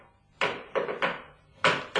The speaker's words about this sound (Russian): Сапожник у колодки стучит.